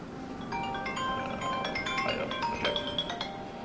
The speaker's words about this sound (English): Sorry, it's our emergency phone.